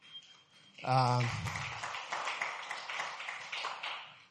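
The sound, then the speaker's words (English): A church audience breaks into dense, steady hand clapping for a worship team member, carrying on for several seconds, preceded by a brief loud voice, with scattered voices mixed into the applause. “You don't know why you're clapping for him.”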